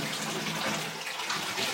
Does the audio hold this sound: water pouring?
yes